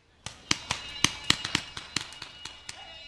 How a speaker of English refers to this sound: An explosion catches Sergeant Joshua Thurman by surprise as he and a team of recovering soldiers sweep a gravel road for explosives at a training site on Fort Campbell.